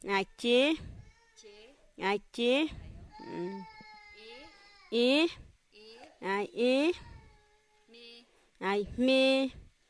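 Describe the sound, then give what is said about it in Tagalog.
A baby cries in a string of short, high, wavering wails, fairly loud, with brief quieter pauses between the bursts. “Are you picking up the baby?”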